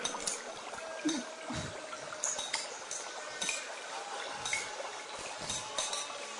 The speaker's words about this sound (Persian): صدای آب میاد.